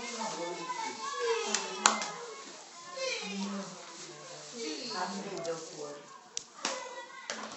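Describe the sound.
Several children chatter and play during an evening sermon, their overlapping voices punctuated by a few sharp slaps or claps.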